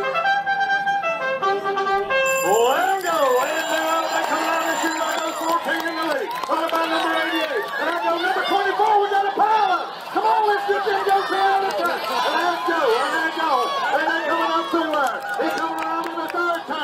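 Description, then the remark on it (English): A crowd at the Hogway Speedway, a NASCAR-themed pig race at the North Carolina state fair: a steady, loud wash of excited voices and chatter, with rising and falling shouted tones over it, after a brief tonal, musical opening. “That's the Hogway Speedway, a staple of the state fair.”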